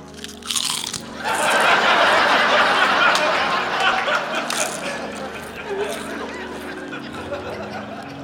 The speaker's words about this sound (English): I recognize that sound. Someone is eating chips. Yeah, definitely, yeah. Chips for sure.